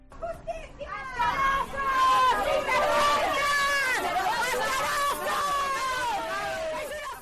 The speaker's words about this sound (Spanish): Esta mañana han acudido a la vistilla del Palacio de Justicia los dos empresarios que quedaban por comparecer ante el juez, que han sido abucheados y recibidos con gritos por un grupo de personas.